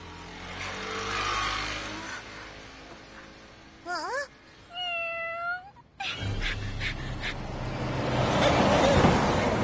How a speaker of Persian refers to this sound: بازم تویی؟ گم شو گربه